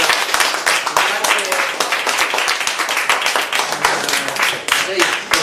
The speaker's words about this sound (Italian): Va bene, allora, la mozione generale è approvata. Direi un applauso a questo punto.